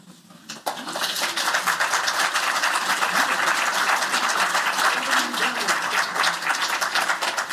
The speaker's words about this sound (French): Bon, on applaudit Aragon. Oui, je sais. Vous voulez me rappeler à la modestie. Oui, d'accord. On applaudit Aragon.